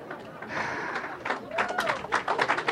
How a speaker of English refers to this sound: And do y'all notice that half the room wasn't applauding? It's the most controversial thing.